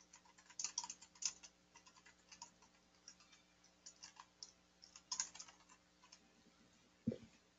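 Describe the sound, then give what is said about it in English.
Rapid, irregular typing on a computer keyboard as someone types a reply to a person, fairly quiet, with bursts of clacking keys and brief pauses, ending on a slightly heavier keystroke. “While you guys are typing, I'm also going to type a response to someone here.”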